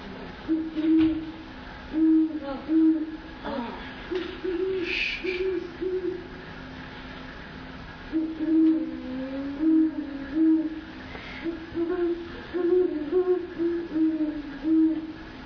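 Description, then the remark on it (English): A recorded owl call played through speakers hoots over and over in short, rhythmic low bursts, with brief pauses between phrases, against a faint, steady background hiss. “let's go ahead and listen to what this owl sounds like.”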